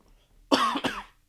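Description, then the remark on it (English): A sharp cough in two quick bursts, the second slightly weaker, followed by quiet; no talking alongside it. “I legit coughed right there.”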